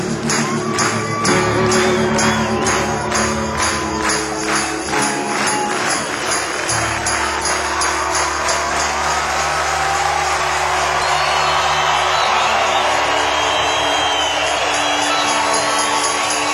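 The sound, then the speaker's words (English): A large crowd claps and cheers continuously, a dense roar of applause with whoops and shouts rising over it, loud and sustained throughout without a break. “Just gonna keep clapping until we're satisfied.”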